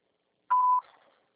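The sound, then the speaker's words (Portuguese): A single steady electronic voicemail beep, a clean mid-pitched tone lasting about a third of a second, signalling the start of message recording, followed by a brief fading tail in an otherwise silent recording. “Após o sinal, grave sua mensagem.”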